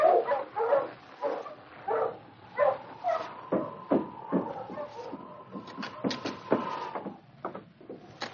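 Dogs, one of them named King, bark in a quick run of loud yips as they are taken around the back of headquarters, then a long high whimpering whine carries on beneath scattered sharp clatters, with no talking.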